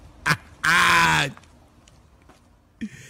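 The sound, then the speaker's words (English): A loud, nasal duck quack rings out in one sustained burst, framed by a couple of short sharp clicks or blips, with no talking. “What the duck?”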